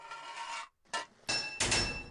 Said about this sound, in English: 3 pipes in your toolbox. 10 total pipes to fit this level. 2 hits of a hammer to fit a pipe.